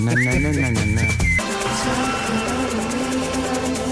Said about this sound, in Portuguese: já não ouvíamos este assobio há algum tempo. É uma bela recordação.